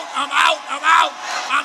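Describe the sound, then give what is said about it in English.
An audience shouting together in loud, overlapping bursts of voices, rising and falling in quick waves with no single speaker standing out. “Let us shout. Somebody need to shout.”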